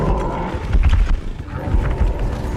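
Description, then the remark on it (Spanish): Loud, dense thudding of horses galloping in a film scene, hoofbeats pounding in a rapid, continuous rumble with heavy low-end weight and no voices. “De los caballos cabalgando, además filmado desde abajo, desde lo que se llama contrapicado.”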